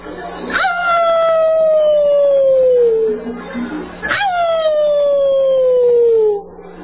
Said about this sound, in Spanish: Aullaba a la luna. Por eso, niñas y niños, es que dicen que los coyotes aullan en la noche mirando al cielo directamente hacia la luna.